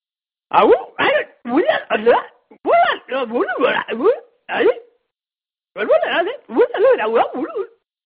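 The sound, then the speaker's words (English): A person vocally imitates chimpanzee calls: a rapid series of short, rising hooting bursts in several clusters, loud and pitched, with a brief pause before a final flurry. “That's some of the chimp sound, monkey sounds that I've heard in the past.”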